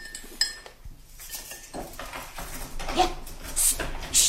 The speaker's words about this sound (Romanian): Ce? Umblă cineva la ușă.